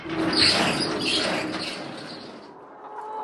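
A flock of vaccinated chickens chatters and clucks together in a farmyard in a Chinese village, its ground covered with white lime used as disinfectant, a steady busy murmur of overlapping calls, with no one speaking.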